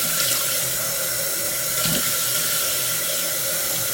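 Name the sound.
water running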